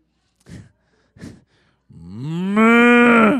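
Two short, breathy snorts are followed by a single long, loud cow moo that swells and holds steady before cutting off. The moo is clear, with no talking.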